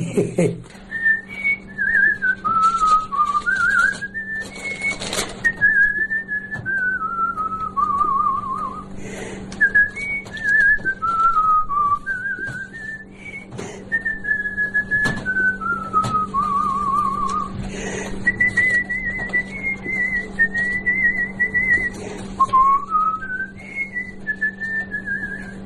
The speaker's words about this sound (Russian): С детства свистел, так все и насвистываю. Сейчас ведь вот тоже все соседи смотрят. Старое все что-то насвистывает, ходит. А у меня само собой получается. Все хожу и все насвистываю что-нибудь. Какую-нибудь песню вспомню, я насвистываю.